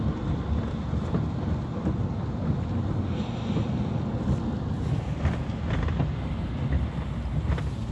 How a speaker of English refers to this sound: And it is a miserable, gray, rainy day.